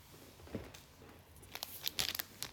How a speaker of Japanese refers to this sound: ではテンガポケットを開けていきますね。